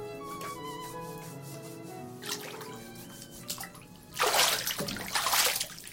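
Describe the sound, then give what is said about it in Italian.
Water sloshes and splashes in a bathtub as a woman bathes, with gentle drips and movement building to louder, brighter surges of splashing near the end. No one speaks. “Quando uscirà dalla vasca non sentirà nessuna differenza di temperatura.”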